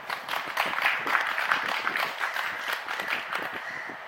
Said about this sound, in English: Let us clap.